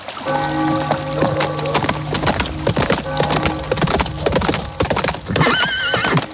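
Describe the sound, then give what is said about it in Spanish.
Four riders' horses clip-clop in a steady, overlapping rhythm of hoofbeats as they cross the Notre Dame bridge along the Seine in Paris, passing the Louvre, joined near the end by a loud, high, wavering neigh. No one speaks. “jinetes que cruzan el puente de Notre Dame, que pasan cerca del Louvre.”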